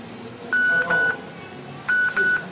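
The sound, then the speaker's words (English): A mobile phone beeps in two quick pairs of short, steady electronic tones, fairly loud, over a low background murmur while someone addresses an audience. “Turn your phones off.”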